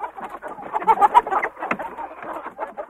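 A hybrid Araucana Rhode Island Red rooster makes a steady stream of throaty clucks and chattering calls for a few seconds, with no one speaking.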